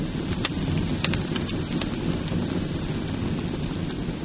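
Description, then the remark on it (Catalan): A bonfire crackles steadily, a constant rushing roar broken by irregular sharp snaps and pops scattered throughout, fairly loud, with no voices; the burning of the dimoni, a wooden figure, in Badalona on 10 May, eve of Sant Anastasi. “Sentiu com es patega el foc?”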